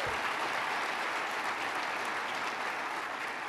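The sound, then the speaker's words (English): An audience bursts into steady, dense applause for Lieutenant Governor Kathy Hochul, many hands clapping at once in a sustained, loud wash of noise that holds evenly for a few seconds with no voices standing out. “First, let's give our great Lieutenant Governor Kathy Hochul a big round of applause.”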